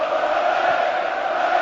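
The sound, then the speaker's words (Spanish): A stadium crowd at the Ramón Sánchez Pizjuán chants olé at Real Madrid during a match, in a dense, sustained roar of many voices, holding steady and loud throughout with no single speaker standing out. “¡Gritos de Ole Ole!”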